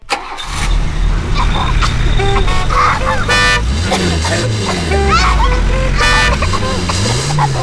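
Car horns honk repeatedly in short and sustained blasts over a loud, steady rumble of engines and traffic, with rising and falling engine revs throughout.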